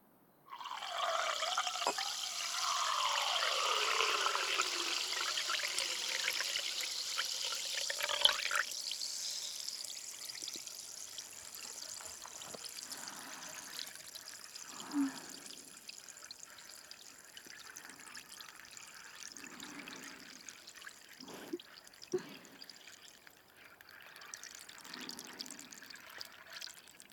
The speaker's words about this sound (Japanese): 新しいグラスを用意して、ここからは両耳同時に炭酸音を聞かせてあげるね。